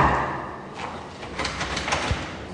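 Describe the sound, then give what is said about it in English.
A locked office door to a radio studio in an office tower on Park Avenue is rattled and pushed against its lock, giving a run of short metallic clunks and thumps, with faint room noise behind. “the new radio host who wants to challenge Rush is locked out of the studio”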